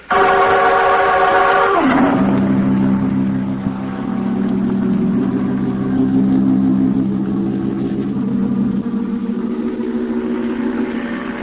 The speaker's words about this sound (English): can't you crank a little more speed out of this outboard?